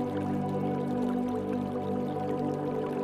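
Shallow stream water trickling and burbling steadily over stones in a forest, a continuous babble with small drips and splashes, with no voices present.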